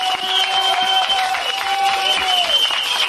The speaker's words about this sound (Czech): Já ti děkuji za proslov a to chce i velký potlesk.